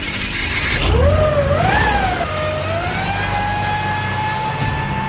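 A high engine whine climbs sharply in pitch, wavers, then holds a steady sustained tone over a loud, constant roar of a racing car engine being cranked up, with no talking.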